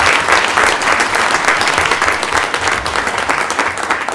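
An audience bursts into a steady round of applause, many hands clapping in a dense, loud wash that holds evenly for several seconds with no talking over it.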